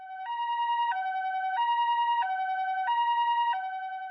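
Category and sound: vehicle, ambulance siren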